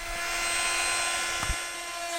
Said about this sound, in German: Zuerst bohrt er ein kleines Löchlein ins Holz und dann geht's gleich weiter.